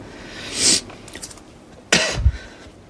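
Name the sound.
coughing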